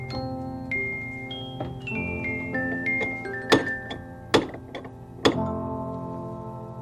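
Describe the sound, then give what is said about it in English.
Three sharp, hollow knocks on a clock, spaced about a second apart, sound over soft sustained musical notes that step downward in pitch before the knocking begins. “Do I hear someone knocking on my clocking?”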